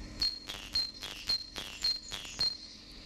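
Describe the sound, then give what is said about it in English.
A bird in the Riviere Forest near Brussels sings a string of about six high, thin whistled notes, evenly spaced roughly twice a second, each starting with a brief sharp onset, fairly soft with no voices. “And what is of note here when comparing the urban to the forest songs of the same bird species is the length of the first note, the minimum pitch of the first note”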